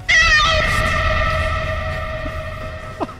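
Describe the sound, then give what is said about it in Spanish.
A strange, electronically distorted cat meow, presented as a transgenic cat sound effect, stretched into a long, wavering tonal wail with buzzy harmonics, loud at first and slowly fading, with a brief chirp near the end. “No, hombre, el gato transgénico lo tengo por aquí. ¿Quieres que lo ponga?”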